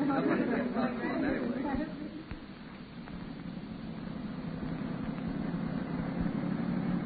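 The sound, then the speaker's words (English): A police patrol car engine runs with a steady, low rumbling drone throughout, while indistinct voices murmur over it during the first couple of seconds. “Hey, Benton, slow the patrol car up, will you?”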